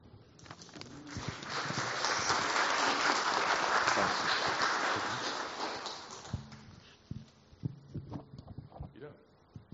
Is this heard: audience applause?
yes